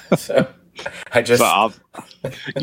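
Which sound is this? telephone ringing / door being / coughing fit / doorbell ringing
coughing fit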